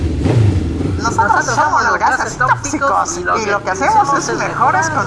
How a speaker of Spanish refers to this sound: Yo soy un carro muy lujoso y moderno y lo que me encanta es hacer mucho ruido y contaminar.